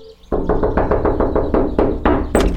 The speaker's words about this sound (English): So I guess we should just knock on the door. Can you knock? Yeah.